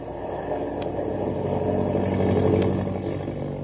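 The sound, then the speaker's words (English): The engine of an airplane falling out of control drones steadily with a low, buzzing roar, swelling slightly in the middle, with a couple of faint brief clicks over the continuous hum. “Hey, we're falling. The plane's out of control.”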